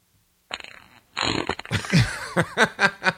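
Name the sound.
fart sound effect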